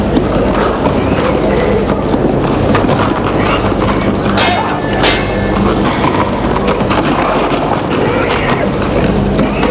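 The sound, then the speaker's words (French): Horses' hooves galloping in a dense, continuous rush of loud pounding beats, with a busy, noisy backdrop that may include indistinct voices. “Devant tout ça, j'entendais le galop des chevaux.”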